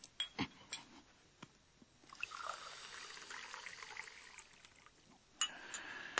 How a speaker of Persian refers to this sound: کمی آب برام بریز.